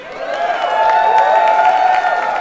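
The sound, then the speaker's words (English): A loud, steady roar of a crowd cheering and clapping at a rally demanding public transit funding, with sustained shouting voices and scattered sharp claps running through the whole stretch. “The crowd was loud and boisterous and hoped that the legislatures would hear their message.”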